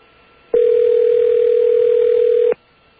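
A phone ringing on a call to a hotline: one loud, steady, mid-pitched electronic tone lasting about two seconds, then silence. No voices are heard.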